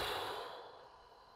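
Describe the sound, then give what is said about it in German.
A single deep breath, held for a second or two, then pushed out through the mouth during a guided breathing exercise: an airy, sigh-like exhale that starts strongly and tapers off over about a second, fairly soft, with no talking. “Halten Sie die Luft für 1 oder 2 Sekunden und lassen die Luft durch den Mund wieder rausfallen.”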